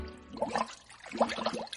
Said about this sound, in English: Splashing in the bath with my little rubber duck. He's my bath time friend. He can splash.